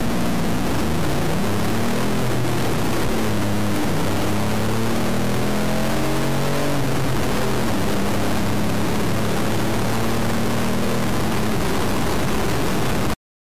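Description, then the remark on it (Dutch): An old-fashioned car engine revs loudly, its rough, throaty drone rising and falling in pitch over a constant wash of mechanical noise, with no voices. “Niet uit de box of zo, maar gewoon lekker, echt ouderwets motorgeluid. En dat uit een cylinder.”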